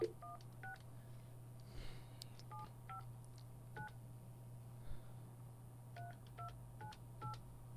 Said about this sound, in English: Please stand by. We're gonna give this person a call.